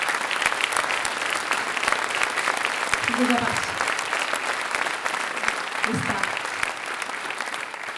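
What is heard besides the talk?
audience applauding loudly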